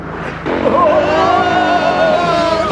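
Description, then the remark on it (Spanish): Engines roar loudly and steadily after a brief quieter start, a car with a canvas top fleeing toward the border with motorcycles pursuing it, a sustained, slightly wavering mechanical drone. “Sueltan la capota de lona del coche que cae sobre los motoristas que les persiguen.”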